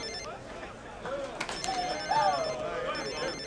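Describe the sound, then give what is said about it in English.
A mobile phone rings with a repeating electronic ringtone at moderate volume, while a few voices murmur and chatter in the background. “he stares at his phone, reluctant to answer.”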